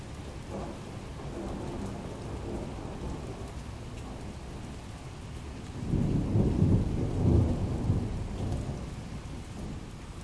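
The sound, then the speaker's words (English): Steady rain hisses throughout while a deep roll of thunder from lightning about 3 kilometers away swells up around the middle, rumbling loudly for a few seconds before easing back into the rainfall. No one speaks. “Big flash of lightning.”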